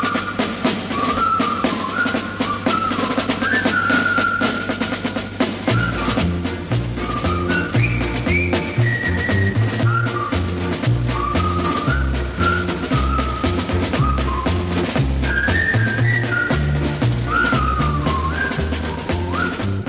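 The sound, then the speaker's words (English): The Colonel Bogey March, theme of the film The Bridge on the River Kwai: a bright, high whistled military march melody over a steady bouncing band accompaniment with a marching bass beat, loud and continuous, no talking. “Alec Guinness in the top money-spinning Bridge on the River Kwai, which also breathed new life into the old Colonel Bogey March as a theme.”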